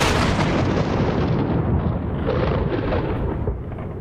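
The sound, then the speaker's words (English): A loud, deep thunderclap rolls and rumbles continuously, heavy low-end booming that stays strong throughout before easing slightly at the end, with no voices present. “I've never heard a thunderclap like that. I felt it in my bones, felt my heart rattle in my chest.”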